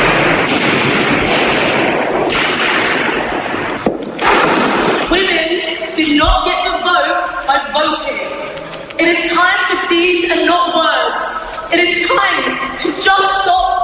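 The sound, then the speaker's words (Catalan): A rapid series of sharp, loud cracks as two environmental activists strike and smash, with safety hammers, the protective glass over Velázquez's painting Venus at the Mirror (Rokeby Venus) at the National Gallery in London, followed by raised voices shouting and talking over the commotion. “Per trencar el vidre que el protegia han fet servir martells de seguretat.”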